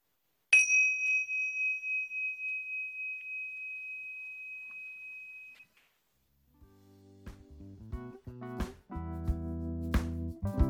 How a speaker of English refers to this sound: And you can begin to bring your attention back. And when you hear the bell, we can finish.